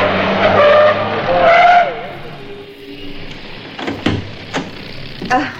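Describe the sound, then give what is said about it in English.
A taxi cab's tires screech loudly as it skids to a halt after being hailed on a street corner, the squeal fading into engine idle, followed by a few sharp knocks like a door being handled. “So I hailed this one on the corner and told him to come straight round to him.”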